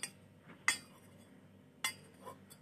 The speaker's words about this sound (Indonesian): Nah, untuk ampasnya kita singkirkan dulu ya. Dengan cara cukup menyentuh bagian permukaannya saja pakai sendok. Lalu kita geser ke tepi cangkir.